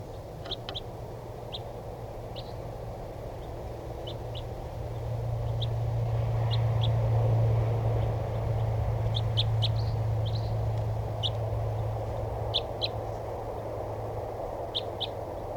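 crossbill flock calling

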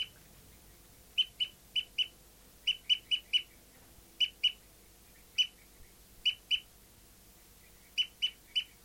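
bird tooping call

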